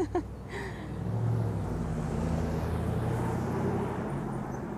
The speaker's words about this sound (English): More cars.